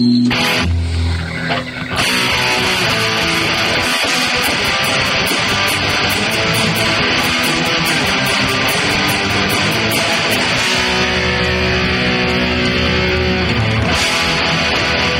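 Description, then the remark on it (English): Loud, harsh intro music for a game segment, with a muddy, distorted sound from poor audio quality, driven by steady rhythmic ticking percussion over a dense, buzzing backing that fills the whole stretch without any talking. “let's get our intro going. Right now, it's the rejected license plate game.”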